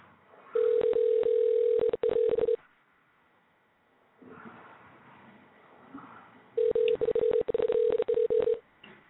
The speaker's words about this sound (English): The line is ringing.